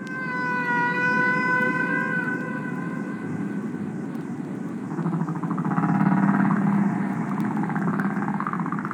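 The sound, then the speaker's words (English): Humpback whale song from a 1970 album, produced by biologist Roger Payne: long, moaning tonal calls that glide slowly in pitch, rich with overtones, over a steady low rumble, with a second lower, buzzier call rising later. No one speaks. “The album was ….”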